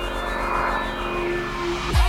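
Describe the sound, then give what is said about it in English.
An airplane engine roars steadily with a high whining tone on top as the plane takes off, then sweeps sharply downward near the end. It is loud, with no voices. “Are you ready for a ride? Wheels up, let's fly, come on.”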